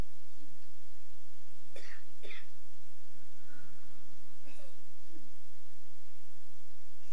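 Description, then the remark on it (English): A few soft coughs from a person during a guided relaxation session, two close together and another a couple of seconds later, amid quiet with a faint background hum. “And you may hear sounds, people arriving, people leaving, people breathing or coughing.”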